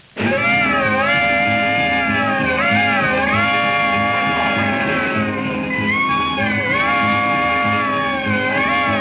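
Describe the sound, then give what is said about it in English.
Saxophones in a band play loud, sliding chords that swoop and bend imitating an express train whistle, repeating several times over a steady band rhythm underneath. “Let me hear that whistle in the saxes once more.”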